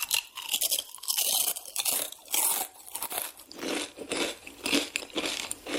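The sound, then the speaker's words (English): Steady crinkling of a bag of M&Ms mixed with crunching as the candy is chewed, continuing in irregular bursts for several seconds with no talking. “Man, I keep hearing your bag over there just crunching and crumbling. I'm eating these M&Ms, y'all.”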